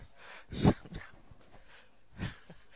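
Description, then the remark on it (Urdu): A voice imitates the snoring of a farmer who has lain down to sleep under a tree: two drawn-out, rasping breaths, a loud one early and a softer one near the end, with no talking. “اور دو روٹیاں اتنی موٹی موٹی اس نے بڑی لذت سے کھا کے وہ کھا لی، وہاں دریا سے پانی پیا اور لیٹ کے درخت کے نیچے سو کے خراٹے لینے شروع کر دیے.”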